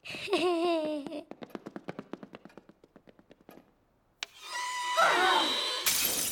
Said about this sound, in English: writes with chalk, causing glass to shatter.